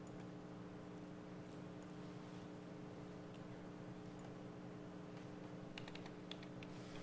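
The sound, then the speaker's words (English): Faint, scattered taps on a computer keyboard with a brief flurry of quick keystrokes near the end, all sitting over a steady low electrical hum. No one speaks. “You know I'm typing when I'm misspelling things.”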